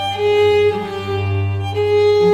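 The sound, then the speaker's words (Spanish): A violin plays sustained, mellow bowed notes in a soft swelling phrase that restarts partway through, imitating the gentle cooing of a turtle dove. No one speaks. “La tórtola de Vivaldi,”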